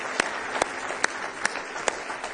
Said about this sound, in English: Give the Lord one more hand clap of praise if you love him tonight.